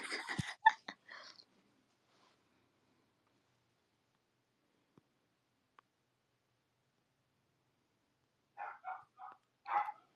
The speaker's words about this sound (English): They're barking so much. I think that my mom stepped outside to like talk to a neighbor, and they don't like that. They like it when she talks to them, but nobody else.